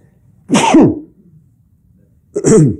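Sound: sneeze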